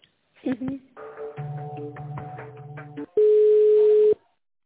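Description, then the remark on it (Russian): A telephone ringback tone sounds during a call transfer: one loud, steady electronic beep lasting about a second, preceded by quieter muffled tonal line sounds. “Сейчас соединю вас.”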